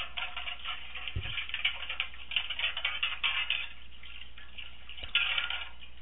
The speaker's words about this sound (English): I changed my sound effect for that. Since people were having trouble recognizing the sweeping, we're going with washing dishes now, since that's something else that Laura did an awful lot of.